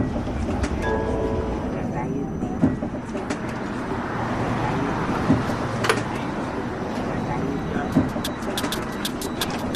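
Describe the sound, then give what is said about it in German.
Steady low rumble of a tram in motion, with periodic clicks and sharp metallic clanks from wheels over track joints, broad and continuous throughout, with faint murmuring voices beneath. “In der Straßenbahn.”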